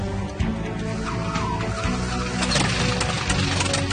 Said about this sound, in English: Now it's time to see how power meant for a 6,000-pound airplane. Just stand clear of the prop, okay? Yeah. Runs at full throttle.